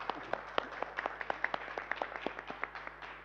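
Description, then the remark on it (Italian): A smattering of applause for a woman who has just sworn an oath of loyalty to the Italian Republic: sharp, irregular hand claps from a handful of people, fairly steady and modest in volume for about three seconds, with no voices over it. “Intanto un applauso alla signora.”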